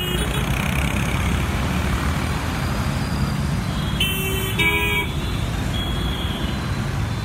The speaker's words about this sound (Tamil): கேட்டின் இருபுறமும் வாகனங்களில் நின்றவர்கள் எதுபற்றியும் கவலையின்றி முதல் கியரில் டுர் டுர் என்று வாகனங்களை கிளப்பி கொண்டு